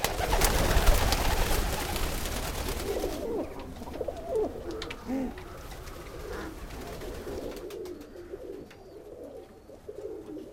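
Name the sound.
pigeons cooing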